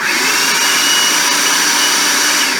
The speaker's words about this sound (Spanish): Bueno, cocina tus frijoles negros sin sal, en agua hirviendo únicamente, y cuando ya están fríos y secos, los llevas a tu procesador o en tu caso a la licuadora, lo que tengas, ¿ok?